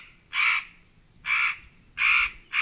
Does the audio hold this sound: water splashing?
no